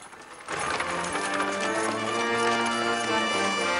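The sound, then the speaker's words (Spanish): Horse hooves clip-clop in a steady, even rhythm as a carriage approaches, the beats partly blended into a swelling bed of sustained music that starts abruptly and stays fairly loud. “Un carruaje tirado por caballos se acerca.”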